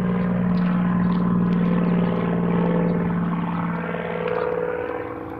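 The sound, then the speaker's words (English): A loud, steady engine drone from a propeller plane passing overhead, with a strong low hum and layered harmonics that swell and fade slightly over several seconds. No voices. “They said something to me, but I couldn't hear it over the airplane.”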